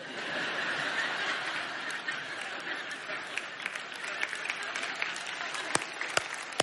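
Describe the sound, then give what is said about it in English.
A crowd claps steadily for several seconds, a dense, even wash of applause that thins toward the end into a few scattered, sharper individual claps. “Yeah, that's worth clapping about.”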